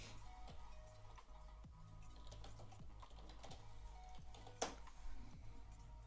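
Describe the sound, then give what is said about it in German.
Steady typing on a computer keyboard while entering a search on Google, quick irregular key clicks over a low constant hum, with one sharper, louder keystroke near the end. “Da muss man bloß jetzt aufpassen, was man eintippt.”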